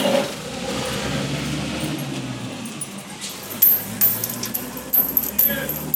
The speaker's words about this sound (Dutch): Maar dan komt hij terug om het hek open te doen. Sleutel? Ja.